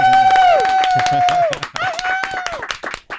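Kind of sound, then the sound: crowd, audience applause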